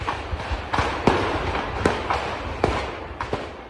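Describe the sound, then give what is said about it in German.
A rapid, irregular series of sharp bangs and cracks as ammunition and fireworks detonate in the early morning of 4 August in Berlin's Grunewald, several sudden loud pops over a constant low rumble, with no voices. “So klang es in den frühen Morgenstunden des 4. August im Berliner Grunewald. Munition und Feuerwerkskörper detonierten.”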